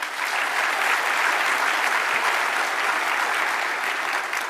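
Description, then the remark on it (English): Sustained applause from a sizable audience at a convention of actuarial professionals, clapping for the speakers, a dense, steady wash of clapping that holds at full strength for several seconds with no voices standing out. “Let's give a round of applause again to our speakers.”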